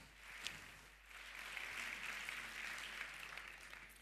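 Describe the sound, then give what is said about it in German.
Audience applause at a congress, welcoming two presenters of a talk on how social media companies define morality: a steady, dense wash of many hands clapping that swells after the first second and holds at an even level, with no voices over it. “Also gebt einen warmen Applaus.”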